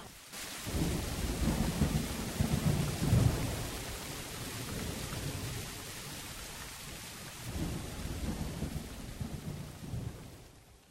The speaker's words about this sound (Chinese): 过了很久很久，雷雨停了。